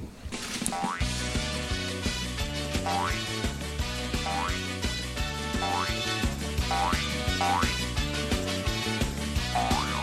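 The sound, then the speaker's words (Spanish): The bouncy musical jingle of the segment "El saltito", with repeated springy boing effects rising in pitch roughly every second over a steady bass pattern, loud and continuous with no voices. “Y nos vamos a ir un momento a oír el saltito, que nos vamos, creo que, a Puerto del Rosario y a publicidad.”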